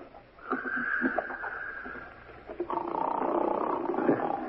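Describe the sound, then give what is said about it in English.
A man snoring loudly in room 9, a harsh rasping drone that rattles on for a couple of seconds, breaks briefly, then swells into a second, rougher snore. No one speaks. “Guy snoring up a storm at 9.”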